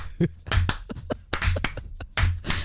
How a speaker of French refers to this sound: On applaudit vraiment pour toutes ces infos.